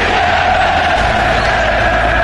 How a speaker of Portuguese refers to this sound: O grito da torcida.